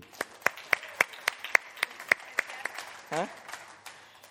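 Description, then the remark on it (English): A brief round of applause from a small audience: scattered, uneven handclaps, sharp and moderately loud, with a short vocal whoop rising partway through before the clapping thins out. “Round of applause.”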